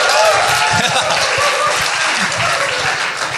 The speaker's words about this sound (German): Das mit dem einfachen Applaus kann ich auch.